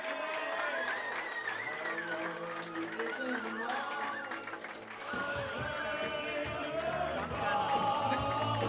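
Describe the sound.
A crowd breaks into a sustained round of applause, with steady clapping and cheering voices mixed in, staying loud throughout and swelling further after the midpoint.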